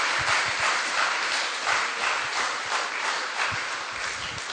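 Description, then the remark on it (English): A church audience applauds a visiting guest steadily, many hands clapping in a dense, continuous patter that holds at an even, fairly loud level throughout, with no voices rising above it. “Maybe an applause for Menno.”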